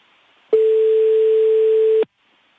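A single steady telephone ringback tone, a clear mid-pitched beep lasting about a second and a half, loud and close, starting and stopping abruptly over faint line hiss.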